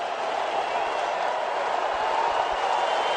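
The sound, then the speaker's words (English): A crowd at Safeco Field applauds and cheers in one steady, dense roar of clapping and voices that holds at the same loud level for the whole three seconds. The fans are on their feet saluting pitcher Felix, 'the King', as he finishes his final pitch of 2014. “Fans rising as one on their feet, saluting the King, the best pitcher in the American League.”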